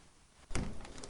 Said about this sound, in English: Close the door.